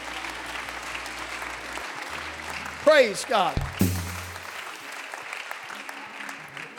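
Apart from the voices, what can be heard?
audience applauding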